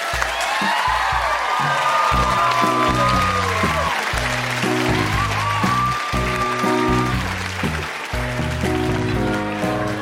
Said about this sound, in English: Can we have a round of applause for Emily and Emily's parents?